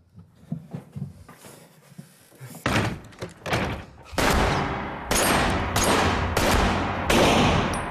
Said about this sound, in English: the priest, his body riddled with bullets, falls onto his knees and then his face.